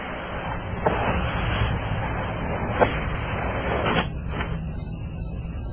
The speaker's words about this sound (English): Ah, yes. Our friends, the crickets, have come back.